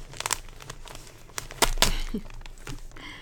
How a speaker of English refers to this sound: I'm just going really carefully because I don't want to tear the paper.